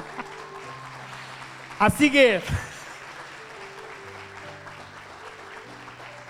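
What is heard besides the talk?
audience applause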